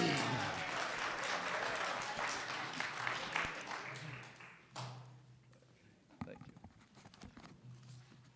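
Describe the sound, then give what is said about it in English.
A church audience bursts into dense applause for the man who brought up the headset. It holds steady for several seconds, then thins out into scattered claps and fades, with a few taps and shuffles at the end. “why don't we give that wonderful man who bring the headset up here a round of applause.”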